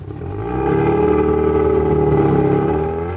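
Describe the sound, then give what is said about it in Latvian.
A car engine idles with a steady, droning hum that swells in over the first half second and then holds evenly, in a Senukai store parking lot in Rēzekne on a weekday early evening, with about five cars parked; no voices present. “Darba dienas pievakarē atrodos kā Senukai stāvlaukumā Rēzeknē. Šeit novietotas aptuveni 5 automašīnas.”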